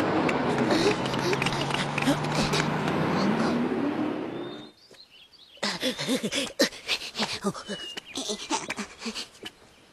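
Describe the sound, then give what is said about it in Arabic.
A car arrives, its engine rumbling loudly and steadily for several seconds, then cutting off abruptly, followed by a short pause and a stretch of several voices talking. “ها هي السيارة قد جاءت.”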